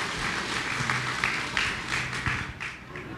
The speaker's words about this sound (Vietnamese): Xin trân trọng kính mời tất cả quý vị lãnh đạo quỹ, chúng ta hãy dâng cao một tràng vỗ tay để lắng nghe lời phát nguyện này.